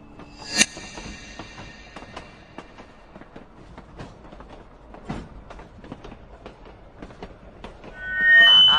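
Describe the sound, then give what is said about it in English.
A ghost train ride car rumbles and clatters along rails, with steady rhythmic clicks and squeals, a sharp bang near the start and a rising roar swelling at the end. “No fair hiding your eyes on the ghost train, you old fraidy cat.”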